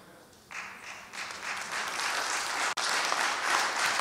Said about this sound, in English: Now listen, thank you for the golf clap.